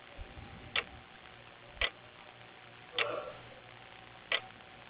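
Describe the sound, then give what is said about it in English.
A clock ticks slowly and steadily, four crisp, fairly loud clicks spaced about a second apart against a quiet low hum, with no voices. “Time's just ticking by.”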